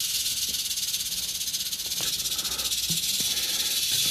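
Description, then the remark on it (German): A snake hisses in one long, unbroken breath, a steady airy high-pitched hiss that holds at an even loudness for about four seconds, with a few faint clicks beneath it and no voices. “Das ist ein Geräusch, ich finde, dass, also wer das nicht versteht, dem ist nicht zu helfen.”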